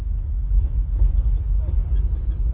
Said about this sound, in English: My knees bang against the seat in front of me. My arms are wedged between my compatriots. As the bus careens down potholed dirt roads, our rear ends hammer the seats like pistons.